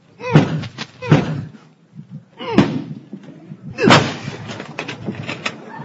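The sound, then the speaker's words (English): Several heavy, booming blows strike a door at uneven intervals as a man forces his way in, each one resounding, with a final crash followed by rattling and clattering as the door gives way. “If you don't open that door, I'm going to come in and get you anyhow.”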